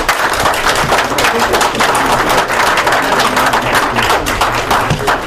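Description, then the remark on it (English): A sustained round of applause from many hands after a unanimous vote at a meeting, dense and steady at a fairly loud level for the full five seconds, with the sharp clatter of individual claps blending into a continuous roar. “I have a tiny bit worried about that round of applause”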